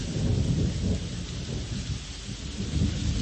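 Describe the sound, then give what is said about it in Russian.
Steady, dense rain pours down outside the walls while a low thunder rumble rolls through continuously underneath, the whole storm enveloping with no voices present. “За стенами дождь закапал, зашумел, дохнул грозой.”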